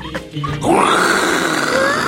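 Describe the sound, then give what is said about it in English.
Someone imitates a lion's roar with their voice as a game answer for the sound of a popular zoo animal: a short grunt, then a loud, sustained, raspy growl that rises and holds steady for over a second. “A lion roar.”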